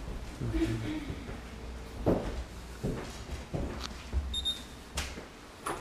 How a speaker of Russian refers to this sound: Тут что-то попискивает, видимо, батарейка садится в сигнализации. Такой звук обычно бывает.